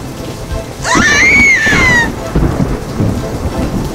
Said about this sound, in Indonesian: Tiba-tiba, suara petir menyambar dan awan gelap datang. Mereka ketakutan saat mendengarkan suara petir.